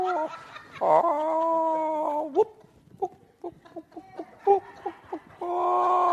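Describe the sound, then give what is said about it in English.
Six chickens kept by a neighbour cluck, mixing drawn-out, wavering squawks with a quick series of short, choppy clucks, then another long call at the end. No one speaks. “Our neighbour has chickens. So these chickens, I'm being observed by 6 chickens.”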